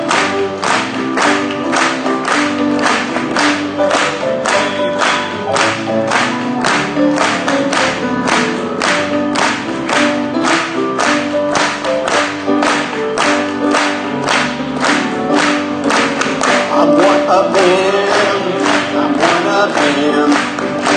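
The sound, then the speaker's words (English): A group claps steadily in time with a religious song, at the singer's invitation to clap along. Sharp claps land on every beat for about twenty seconds over sustained music and singing, with the clapping loud and even throughout. “Clap and join me.”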